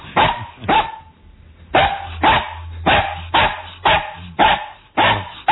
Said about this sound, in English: That's annoying. That's annoying. That's Joe Ardinger's house. That's Joe's beagle.